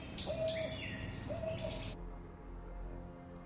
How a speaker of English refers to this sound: An owl calls out, and I say, "Is that stupid sucker following us?"